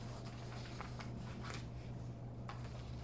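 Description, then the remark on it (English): Sheets of paper being shuffled in a few brief, soft rustling bursts, quiet over a steady low electrical hum, with no one speaking. “They gave me too much paper.”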